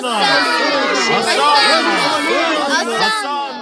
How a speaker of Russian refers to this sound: Это делали взрослые и дети, которые стояли по краям дороги и громко восклицали.